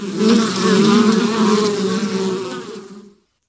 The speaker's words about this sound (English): Well, you know, if that was bees, we'd really be in trouble. It sounds like a lot of them. How about a swarm of mosquitoes, huh? No, it was bees then. Yes, you were right.